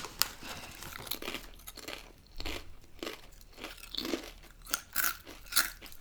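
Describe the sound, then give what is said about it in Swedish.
Loud crunching of crisp, malt-scented snacks being chewed, with repeated sharp bites and grinding crunches in an irregular rhythm, and no talking. “Så kommer alla som hatar folk som tuggar högt och stänga av nu.”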